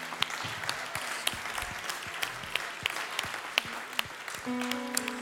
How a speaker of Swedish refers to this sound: Ska vi klappa om honom riktigt ordentligt?